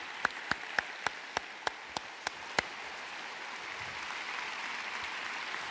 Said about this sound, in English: Let's give them one more round of applause.